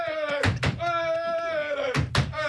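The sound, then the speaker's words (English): Someone bangs on a table: four loud, heavy thumps in two quick pairs, about a second and a half apart, over a steady, sustained tonal hum. “Stop banging on the table.”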